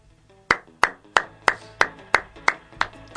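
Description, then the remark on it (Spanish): Slow, steady applause from what sounds like a single pair of hands: about nine sharp, evenly spaced claps, each ringing briefly before the next, with no talking. “Mitad de aplauso fue para él.”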